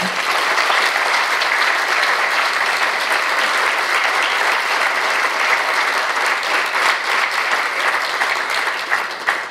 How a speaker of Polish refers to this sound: Oklaski dla nich.